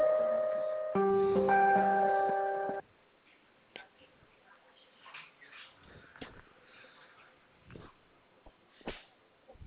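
A short sequence of loud, steady electronic telephone tones, one pitch and then a shift to a layered chord, as a call is transferred to the switchboard operator, followed by faint line clicks and crackle.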